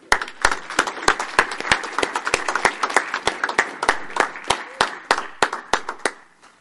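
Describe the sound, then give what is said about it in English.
An audience claps steadily for several seconds for service pin recipients, with sharp individual claps standing out over a softer wash of many hands, keeping an even, lively pace to the end. “I'd like to give one more round of applause to all our service pin recipients.”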